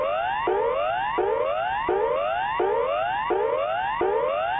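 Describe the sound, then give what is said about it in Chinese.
A standard emergency warning signal, sounded in a test of the new public loudspeaker warning system in Melbourne's CBD: a loud electronic whooping tone that sweeps upward in pitch, over and over in a steady rhythm, about six rising whoops with no voices. “The next sound you hear will be the standard emergency warning signal.”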